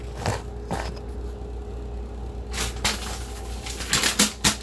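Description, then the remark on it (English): Paper rustles and crinkles in irregular bursts as it is readied for making maple glazed pecans: a few sharp crackles and swishes that cluster and grow louder toward the end, over a faint steady hum. No one speaks. “Like getting my handy dandy paper ready.”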